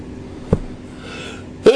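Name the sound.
a sneeze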